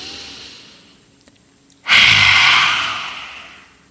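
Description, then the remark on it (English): A single forceful, breathy exhale of the yoga lion's breath, mouth open and tongue out, coming from deep in the belly, bursts out after a quiet pause, a loud rushing hiss that fades gradually over about two seconds, with no speech. “And when you're exhaling, you're making that sound coming deep from in the belly area, right?”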